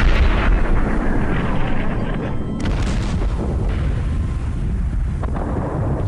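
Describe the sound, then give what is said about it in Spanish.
Heavy booming bursts of cannon fire roll through a dense, continuous rumble of battle, loud and sustained with no clear gaps, suggesting several guns firing amid constant noise. “Los cañonazos hacían que su pequeño cuerpo se estremeciera.”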